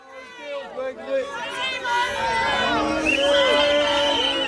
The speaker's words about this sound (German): Wütende Bürger schreien Politiker zusammen, Polizeibeamte in grünen Westen schirmen sie ab. Szenen wie diese häufen sich in Großbritannien.